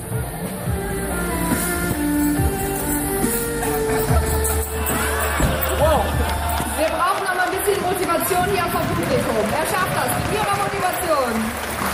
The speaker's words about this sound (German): Motivation hier vom Publikum. Er schafft das. Ihre Motivation. Ja, sehr gut. Ja, sehr gut. Das Anfeuern von den Gästen hat also geholfen